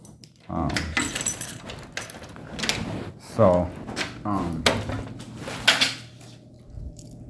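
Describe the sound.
Keys rattle and jingle in repeated metallic bursts over several seconds as someone tries to get back into a building, with a voice talking in the background and some clunky handling noises.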